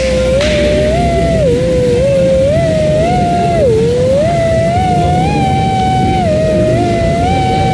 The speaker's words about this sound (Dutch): Alle klokken luiden. Ja, ja precies. Ja, dat gebeurt dan met de zingende spriet. Hier op de Groningen Radio amateur treffen in Eelde.